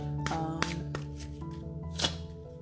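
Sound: shuffling tarot cards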